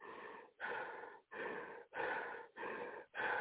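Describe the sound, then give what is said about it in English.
Heavy, panicked breathing: about six loud, harsh breaths in and out in quick, steady succession, with no talking. “Why you breathing like the smell of a pig? It made me panic, man.”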